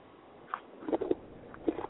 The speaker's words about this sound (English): What I want to listen to is this girl eat something out of a bag for 2 hours. That's what I want to hear.